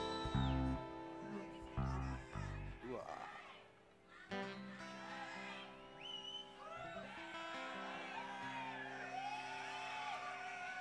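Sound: audience member yelling out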